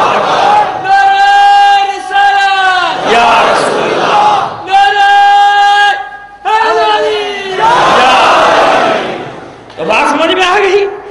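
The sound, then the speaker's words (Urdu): A large crowd chants religious slogans in loud, drawn-out unison shouts, about five sustained calls separated by brief pauses, powerful with no other sounds between. “منتشر نعرہ نہیں, تین نعرے لگائے تھے وہ نعرے اللہ”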